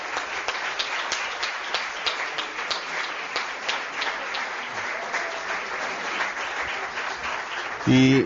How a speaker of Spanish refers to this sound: que atiende a 34 pueblos y quería pedir un aplauso para él que está aquí presente.